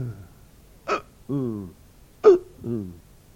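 A baby hiccups twice, each a sharp catch in the throat followed by a short voiced squeak, spaced over a second apart, clear with no talking; the hiccups come after the baby nearly chokes while being bottle-fed.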